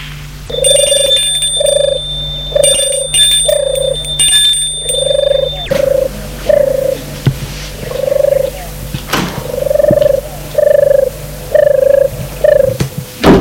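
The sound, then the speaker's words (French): The front door bell of a house rings over and over in short, evenly spaced tonal pulses, with a bright, buzzy ringing layer over the first few seconds that then drops away. No one speaks. “Longe le parc, tristement, et sonne à la porte d'entrée de la maison.”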